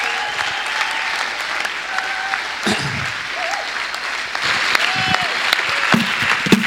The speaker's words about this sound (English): So I'm just going to invite five guys to come up, and as they do, why don't we give them a round of applause?